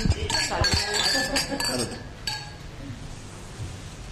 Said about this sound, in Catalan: Aquí, sí, ara brindis de festa major.